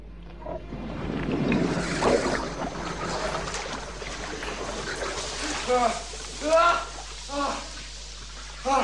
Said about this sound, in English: He turns a tap, and the water level drops rapidly.